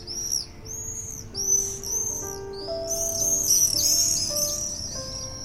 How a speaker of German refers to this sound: Dieses feine Klingeln sind die Bettelrufe der Jungvögel.